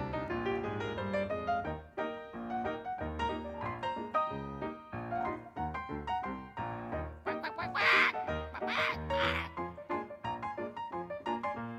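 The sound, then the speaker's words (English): A voice imitates a squawking hen, with a loud run of nasal cackles and squawks that grow shriller and harsher toward the end. “Let me hear a hen that's a squawking.”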